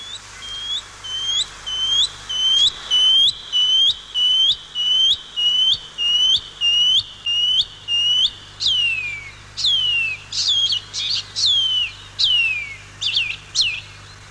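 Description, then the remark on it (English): A shining cuckoo (pīpīwharauroa), a native bird of Aotearoa New Zealand, calls clearly and loudly, repeating a rapid series of upslurred whistles in a steady rhythm, then shifting to longer downslurred notes toward the end, with no talking. “And this morning we're going to be talking about the pipi wharauroa, the shining cuckoo.”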